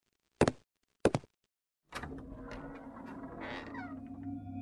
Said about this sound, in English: Okay. I'll unlock the door.